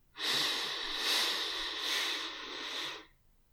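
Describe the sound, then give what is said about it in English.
A slow, steady inhale through the nose lasting about three seconds, airy, with a soft hissing rush that swells slightly midway, heard alone; breathing in for a count of four during a breathing exercise. “And again, breathing in for a count of four through your nose.”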